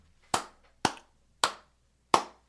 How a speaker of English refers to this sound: But nobody cares. I clap alone, apparently. Yeah. I clap alone because nobody else fucking cares.